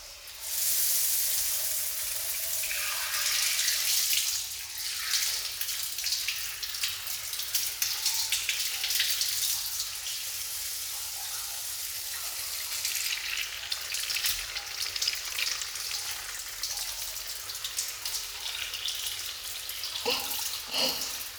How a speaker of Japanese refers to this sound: よろしいですわ。またシャワーで流していきますわね。